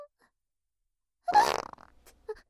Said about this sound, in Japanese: 臭いおならをする悪いお尻にはお仕置き。